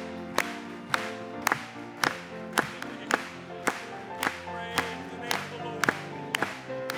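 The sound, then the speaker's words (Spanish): An audience claps together in a steady beat, roughly a dozen sharp, evenly spaced claps riding over sustained music with held chords underneath. “Vamos a aplaudirle.”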